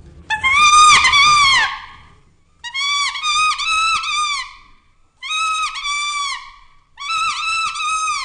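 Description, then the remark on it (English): A young rooster's crow imitated by blowing on a common leaf: four reedy, strained, wavering phrases, the first longest, played loud with short pauses between and no talking. “young cockerel.”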